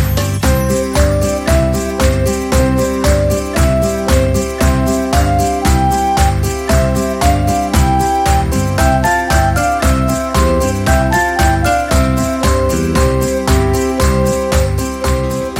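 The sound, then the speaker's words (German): Bells ring in a fast, steady rhythm, struck notes repeating over a dense wash of overlapping, sustained ringing tones. The pealing is loud and continuous, with no voices. “Glocken, hörst du nicht die Glocken? Bim, bam, bum, bim, bam, bum.”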